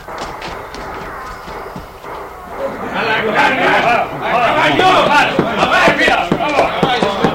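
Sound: horse hooves clip-clopping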